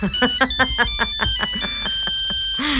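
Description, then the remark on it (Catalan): A bright, electronic mobile ringtone plays a quick, bouncy melody of short beeping notes in a steady rhythm, in the style of an early Nokia tone, ending with a brief rising sound. “Els que heu tingut un Nokia, que eren dels primers telèfons mòbils que van triomfar en el seu moment, hi havia Alcatel, Nokia...”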